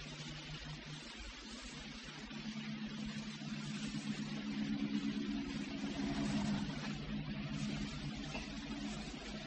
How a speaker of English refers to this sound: When that car went by, were you able to know that it wasn't going by? There's no automobiles in the kingdom of God.